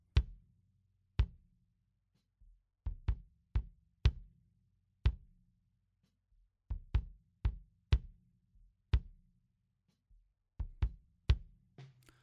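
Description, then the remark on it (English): Punchy bass drum hits, heard through the bass drum mic alone, play in an uneven pattern, each a sharp thud with a brief low boom, sometimes in quick pairs or triplets, over about a dozen seconds with no voices. “Here is the bass drum mic alone.”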